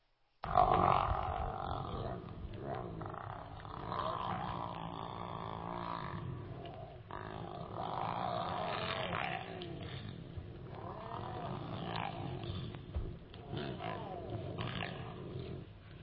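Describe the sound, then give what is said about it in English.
A lion growls and rumbles continuously, deep, with low guttural snarls and grunts rising and falling over about sixteen seconds as it devours its prey. “There's this sound that a lion makes when it's devouring, when it's delighting over its prey.”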